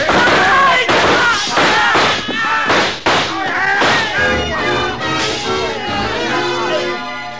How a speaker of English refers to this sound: The shooting went on for about 5 seconds, and when the glass started to come down behind us, we covered up.